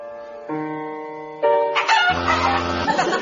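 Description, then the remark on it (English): Sustained musical tones shift pitch partway through, then a burst of chicken clucking and squawking, hidden in the music, cuts in over it, fairly loud, with no talking. “I've hidden 4 chickens in it.”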